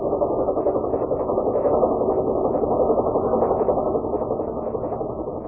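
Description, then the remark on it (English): A helicopter coming into San Borja at night, landing on the other side of the mines, drones steadily, its engine a dense low rumble with a faint rhythmic flutter that holds an even loudness and eases off only slightly at the end. No one speaks. “Well, the fields in San Borja make it tough for a plane, but for a helicopter, that's another thing.”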